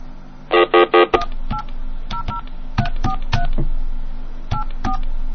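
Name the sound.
telephone touch-tone dialing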